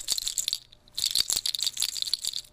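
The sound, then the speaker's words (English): Dry, clattering rattle of deer toe dangles on a beaded bag being shaken, a dense burst of clicks, a brief pause, then another longer bout of bright rattling. “but it's embellished, the bag itself is embellished with the toes of deer.”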